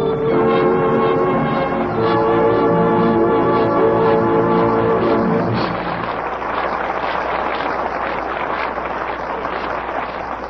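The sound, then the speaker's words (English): A loud, sustained horn of the 6 o'clock train to Henderson blares with rich layered tones for several seconds, then cuts off, leaving the steady rumble and clatter of the rolling train. “6 o'clock train to Henderson.”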